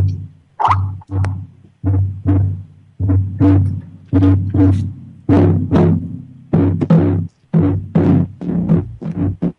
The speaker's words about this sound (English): I was doing on the smaller drum, that is the heartbeat. It's the 1-2 beat. It's the heartbeat of the Earth Mother.